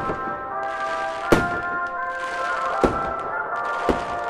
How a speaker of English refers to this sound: So you're standing around and you see some fireworks go off.